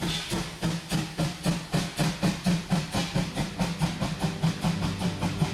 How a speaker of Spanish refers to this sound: Ambos se quedaron esperando a que marcharan los trenes, cada uno a un lado de las vías.